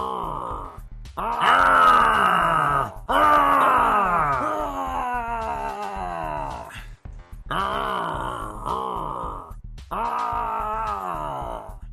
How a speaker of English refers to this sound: Professor John Gotti coming in hot with the Beth Phoenix growl. I love it. I love it.